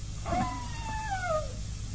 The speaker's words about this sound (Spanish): Silencio. ¿Escuchan? Sí. Parecen gemidos. ¿Alguien está herido?